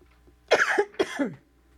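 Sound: cough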